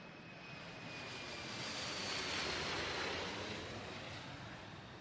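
airplane taking off

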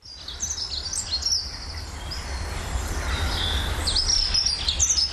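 birdsong

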